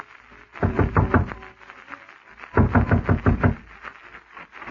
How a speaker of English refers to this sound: And as you were lighting your pipe, the insistent knock you had anticipated came to the door.